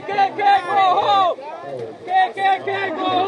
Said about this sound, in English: Across the street, counter-protesters shouted and chanted.